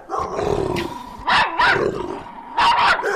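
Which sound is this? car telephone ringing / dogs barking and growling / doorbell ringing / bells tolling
dogs barking and growling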